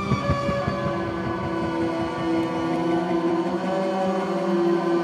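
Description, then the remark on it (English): An apprehension engine, an instrument commissioned by film composer Mark Corvin for scoring horror films, groans out a dense, unsettling drone of scraped, bowed metal strings, steady and loud, with layered eerie tones and a rattling, grinding texture underneath, no voices. “A lot of that tension comes from the score, and a special instrument called the apprehension engine.”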